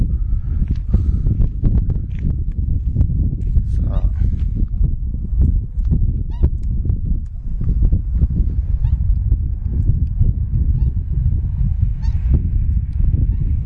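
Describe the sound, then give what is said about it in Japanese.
Loud, continuous honking calls from a flock of swans, overlapping, over a steady low rumble of wind, recorded on November 21 while a person approaches them, taking photos with a camera. “カメラで写真撮りながら白鳥さんに接近してみましょう。”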